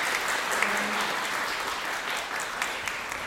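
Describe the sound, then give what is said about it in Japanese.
A crowd applauds the day's presenters at the close of a lecture event, a steady, dense wash of many hands clapping at even loudness for the full length, with no voices standing out. “もう一度今日の出演者の皆さんに大きな拍手をお願いします。”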